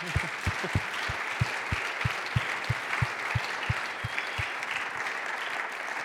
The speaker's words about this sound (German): Wir wünschen ihnen einen herzlichen Applaus.